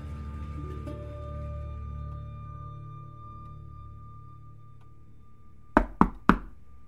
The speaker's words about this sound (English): She was surprised to see such a young police officer knocking on her door. He was maybe 25 and a little taller than she was.